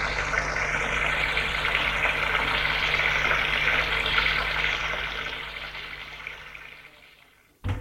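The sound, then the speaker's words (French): A shower runs in a bathroom with a steady hiss of spraying water that slowly tapers off toward the end, followed by a short sharp knock. No voices. “Après avoir pris sa douche, il entre dans sa chambre.”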